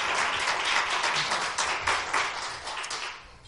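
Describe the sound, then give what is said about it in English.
A church audience claps together in praise of Jesus, a dense, steady wash of many hands applauding that fades slightly toward the end, with no speech over it. “If you love Jesus, give him a hand clap of praise.”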